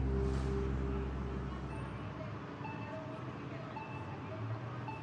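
Steady street traffic outside an airport rumbles in the background, with a deeper engine drone early on that eases into a continuous wash of road noise and faint passing vehicles.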